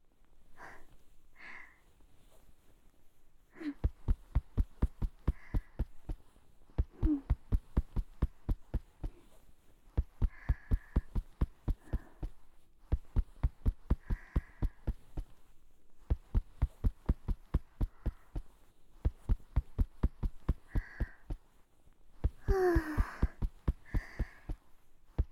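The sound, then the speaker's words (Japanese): Rapid rhythmic shoulder tapping done as an ASMR massage, coming in bursts of quick, even pats with short pauses between, soft muffled thumps alongside faint breathing and small voiced sounds. “それじゃあ次は肩叩きしていくよ。肩叩くのは音と振動が気持ちいいから ASMR としても人気なの。”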